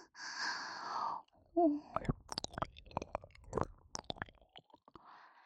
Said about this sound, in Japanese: 先輩のこと好きな私が勝手にペロペロしてるだけなんですよ。